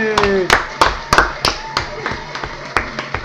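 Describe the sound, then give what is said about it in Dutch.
Sparse applause after a joke on a comedy morning show: about a dozen sharp, separate hand claps in an uneven rhythm, thin rather than a full crowd, with a brief vocal-like tone at the start. “Kijk al die klapjes.”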